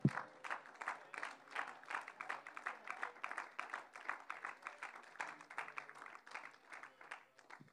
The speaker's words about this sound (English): Oh, let's clap our hands to the Lord today.